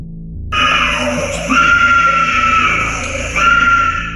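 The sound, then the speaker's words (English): A woman screams loudly and continuously in a courtroom, her anguished cry rising in intensity in a few long surges, with no clear words and a low, reverberant background. “Involuntarily, she started to scream in the courtroom.”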